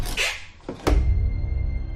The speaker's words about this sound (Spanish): La familia Otero estaba en la cocina cuando sonó el timbre de la casa. Joseph abrió la puerta